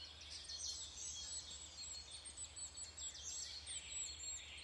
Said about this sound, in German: Hörst du, wie die Vögel miteinander in Kontakt sind? In welchen Frequenzen und Variationen sie singen und sich mitteilen?